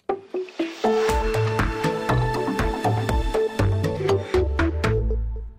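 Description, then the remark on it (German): Harp music by a harpist from Bern plays on its own, plucked notes ringing out and decaying over a steady, flowing pattern with deep low notes underneath, clear. “Die Musik, die wir jetzt gerade kehren am Radio, kommt von der Berner Harfenistin”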